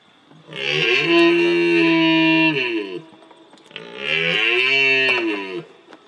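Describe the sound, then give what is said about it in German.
A red deer stag bellows twice in a played video, each deep, drawn-out roar lasting a couple of seconds, loud, with a brief pause between the calls and no talking. “Wer hat schon mal einen Hirsch lechzen hören?”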